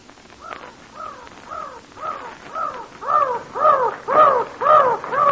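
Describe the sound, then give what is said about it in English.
Mountain crows caw at dawn along the edge of a mountain wall in a steady, rapid series of about ten harsh calls, growing louder toward the end, with no voices. “Them's mountain crows. Well, they're awful mad.”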